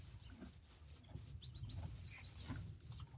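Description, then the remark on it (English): Several birds sing and chirp continuously outdoors at sunset with no wind, with quick high twittering notes overlapping throughout, set against a soft low rumbling background; no one speaks. “The birds are singing as the sun goes down.”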